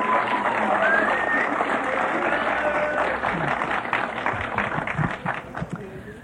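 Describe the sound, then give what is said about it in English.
A crowd applauds loudly and steadily, dense clapping filling the whole stretch with a few voices and cheers mixed in, thinning slightly near the end. “You can clap louder than that, can't you?”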